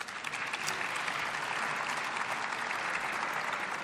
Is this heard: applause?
yes